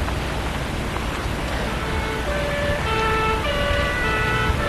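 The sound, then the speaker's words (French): Police and ambulance sirens wail at a scene on the quays, their steady tones rising out of a constant roar of city traffic about halfway through, with no voices. “Voyez un accroupement sur les quais, des badauds, voitures de police, ambulances.”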